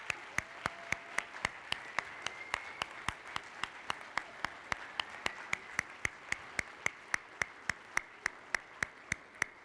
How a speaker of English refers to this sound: And I want us to show our appreciation for the moms in this place by clapping before I pray. Would you just honor your moms today by clapping?